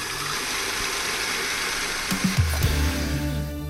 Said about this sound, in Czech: Budeme šlehat pevný sníz bílku a za stálého šlehání postupně přidáme těch 6 lžic cukru krupice. Jo?